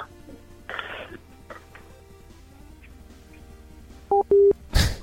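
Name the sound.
telephone call hung up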